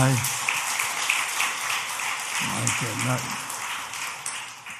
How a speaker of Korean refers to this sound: 와, 박수 한번 칩시다.